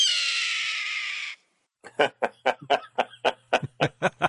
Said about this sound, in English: It's a red-tailed hawk.